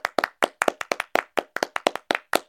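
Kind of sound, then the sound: sound effect, applause sound effect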